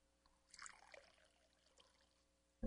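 Water pours briefly from a spigot into a bottle, a soft gurgling rush that fades into a thin trickle, followed by a sudden thump at the end.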